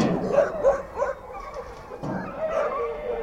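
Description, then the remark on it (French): Several dogs bark and yap over one another in Alain Drache's kennel, home to 130 pedigree dogs, a busy run of overlapping barks and yips with a steady background clamour, continuous. “Alain Drache m'a donné rendez-vous dans son chenil. C'est une heure. Il est propriétaire de 130 chiens de race.”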